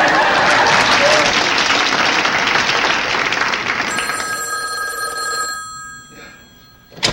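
Loud applause fills the first few seconds and fades as a telephone bell starts ringing, a bright metallic trill lasting about two seconds before cutting off.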